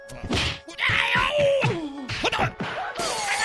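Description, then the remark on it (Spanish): Glass shatters amid a rapid series of loud whacks and crashing impacts, with a brief strained cry mixed into the bright, continuous smashing. “No ganan para cristales ahí.”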